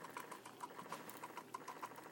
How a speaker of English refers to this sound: But that's the Keurig.